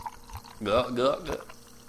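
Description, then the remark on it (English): Liquid pours into a cup for about a second, a gurgling splash whose tone climbs as the cup fills, then trails off into quiet. “Okay, let me pour you some.”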